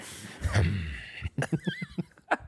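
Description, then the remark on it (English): Forceful Wim Hof–style breathing: one long, loud rushing breath, then a quick run of about six short, sharp puffs of air in a steady rhythm, with no talking. “You're Wim Hofing as I'm talking. Yeah, I'm hoffing hard.”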